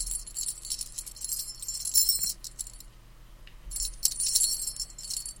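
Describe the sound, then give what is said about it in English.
A video game bonus key pickup effect, played when the player picks up a key: bright metallic jingling like shaken keys, sounding in two shimmering bursts separated by a short pause, clear with no voices. “Pick up bonus key. It's when you pick up a key.”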